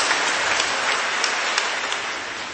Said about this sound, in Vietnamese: Vâng, chúng ta cảm ơn bạn đã bằng một tràng pháo tay thưa các bạn.